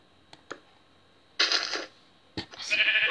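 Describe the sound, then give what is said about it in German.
Two clear bleats from a sheep, the second longer and more drawn out, preceded by a few soft clicks, with no one talking. “Schaf!”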